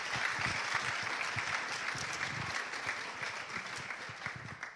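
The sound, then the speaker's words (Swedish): Steady, dense applause from an audience in Johanneskyrkan church, welcoming a guest: a continuous wash of many hands clapping at an even level that holds for the whole stretch without talk. “Vi ger Maria en stor applåd.”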